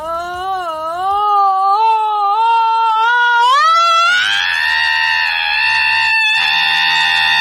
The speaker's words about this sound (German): Mensch, ein Wecker, der schreit.